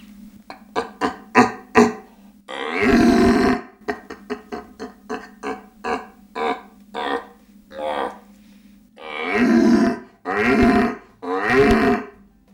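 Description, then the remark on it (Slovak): A person imitates the rutting bellow of an old red deer stag that already controls a herd of hinds: a run of short, rhythmic guttural grunts broken by long, loud, rasping roars, with no talking. “Starý jeleň, starý ktorý jeleň už ovládol čriedu jelenic.”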